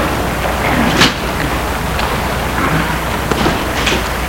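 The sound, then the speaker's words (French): A car door slams shut with a single solid thud as a man gets out of his car, stopped in front of a house on boulevard des Belges in Lyon in the early morning before full daylight, followed by a few faint clicks and shuffling over a steady outdoor background hum. “Il sort de voiture.”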